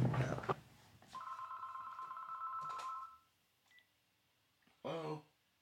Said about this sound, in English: Hold on one sec. Oh, sorry. My phone's ringing.